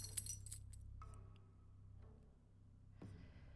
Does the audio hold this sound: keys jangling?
yes